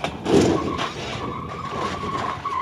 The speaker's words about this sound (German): Er crasht seitlich gegen die Leitplanke, prallt von ihr ab und kommt nach 20 Metern arg lädiert zum Stehen. Doch das Video zeigt keinen Unfall, sondern einen Sicherheitstest für Leitplanken.